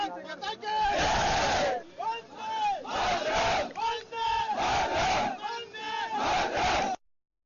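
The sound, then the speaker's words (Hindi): A large crowd chants "Vande Mataram" in loud, rhythmic unison, the slogan rising and falling in repeated bursts roughly every second, with a roaring wash of voices filling the gaps. “जी हाँ, वंदे मातरम की ये गूंज और आज पूरा देश ऑपरेशन सिंदूर की सफलता को लेकर गौरवान्वित है”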